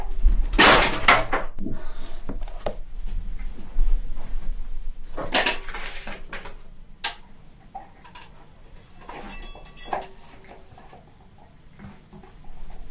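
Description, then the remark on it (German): A lamp, knocked over by someone gesturing too vigorously, topples with a loud clattering crash, followed by a few more sharp knocks and rattles against a low background rumble. No one speaks. “Jetzt ist hier die Lampe umgefallen. Die habe ich zu stark gefuchtelt.”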